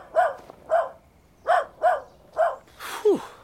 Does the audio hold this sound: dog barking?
yes